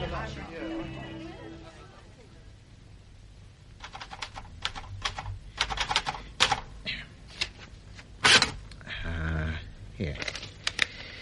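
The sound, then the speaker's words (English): A typewriter clatters in irregular bursts of sharp key strikes, with a louder clack partway through, after a brief stretch of murmured voice at the start. “I mean, yes, I am not in love with my typewriter.”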